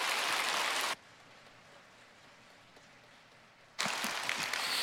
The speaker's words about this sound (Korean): 우리 모든 게 하나님의 은혜요, 하나님 은혜로 하는 일이지만 우리 하나님께서 이 귀한 두 분을 통해서 이루신 놀라운 역사, 우리 하나님께 영광 돌릴 마음으로 박수를 한번 하나님께 돌렸으면 좋겠습니다.